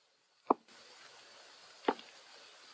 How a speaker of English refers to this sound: And just as I'm beginning to come up for air, I hear somebody coming down the corridor.